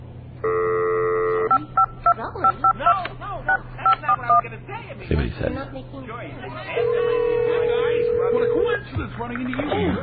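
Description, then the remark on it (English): A quick string of telephone keypad beeps as a number is dialed, followed by a steady, drawn-out ringing tone on the line, with people chatting quietly underneath. “let's call Dan Gerson. Let's see if I can get him on the phone right now.”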